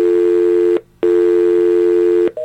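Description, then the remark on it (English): A loud, steady telephone dial tone buzzes through harsh crackling static caused by the broadcast equipment, cutting out briefly once before resuming, then shifting to a higher tone at the very end. No one speaks. “That's the dial tone, and that's that horrible bit of static that we have to get rid of.”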